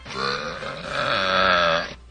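A single long, loud, rumbling burp, an entry in a burping contest, lasting about two seconds, with a strained, throaty tone that holds steady before cutting off abruptly. No talking during it.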